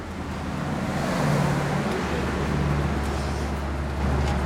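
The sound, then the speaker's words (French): A steady low engine rumble of an old, beat-up car driving along a road, with continuous road noise and a rough, droning hum throughout, moderately loud, no talking. “À 4h du mat, avant le chant du coq et mal réveillé, notre fixeur est passé nous prendre dans sa bagnole pourrie.”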